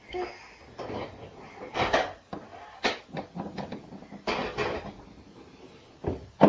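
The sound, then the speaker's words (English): Toy hammers are banged together by a boy, knocking and clacking in an irregular flurry of sharp hits, with a few louder bursts of banging scattered among quieter taps. “Are you banging them together?”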